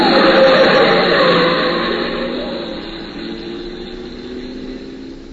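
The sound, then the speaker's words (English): A car engine roars loudly, a broad rushing whoosh that gradually fades as the car speeds around a sharp corner on a dimly lit street and pulls away, with no voices. “The lights are dim, the corner's sharp, a car's coming fast, it turns, you don't see it.”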